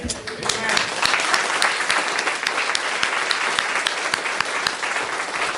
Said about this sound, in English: Well, sometimes people think, oh, why would you clap for something like that? Well, it's just another praise for our Lord, whether he healed you of a headache or a sore wrist or a back or a leg or whatever it is, we want to give him thanks